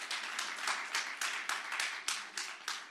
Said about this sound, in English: And I want to say, you know, I'm so glad that parents have their kids in church today. Amen. Can we say amen to that? Can we clap for parents in church?